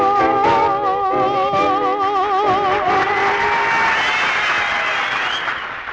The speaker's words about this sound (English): Well, pardon me while I lead the applause for that fine rendition.